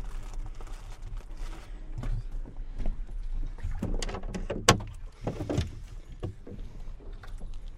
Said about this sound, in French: Allez, dès que je peux, je saute dans le bateau et c'est hop, le monde m'appartient.